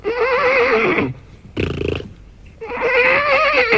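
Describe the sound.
A voice imitates a horse's neigh: two long, wavering whinnies with a short, breathy snort between them, loud, with no other talk.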